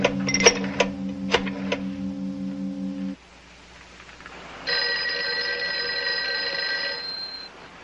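A telephone rings in two steady, buzzing bursts separated by a short pause, with a few sharp clicks at the start of the first ring. Nobody speaks.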